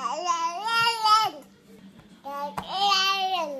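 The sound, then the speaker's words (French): A baby girl babbles in two long, sing-song vocal bursts separated by a short pause, fairly loud, with high harmonic coos rising and falling; no adult speech. “Et si bébé pouvait parler, elle vous dirait sûrement.”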